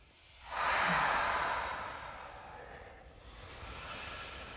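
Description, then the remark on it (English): A group of people breathing together, with a long, airy exhale swelling up and fading, then a softer second breath following after a brief pause. No talking. “In and out. In. Breathing as one group in our own different ways.”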